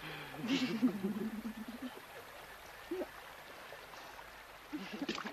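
Steady rushing of flowing river water where women are washing, with voices briefly chattering and calling over it, then fading back beneath the constant watery wash.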